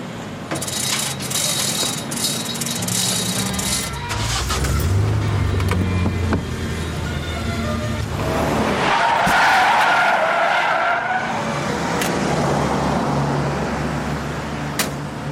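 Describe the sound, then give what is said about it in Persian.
A car engine revs and pulls away while tires screech and skid loudly on the pavement, a sustained squeal that swells in the middle and lingers, with no talking. “چرا اینجوری رانندگی میکنی؟”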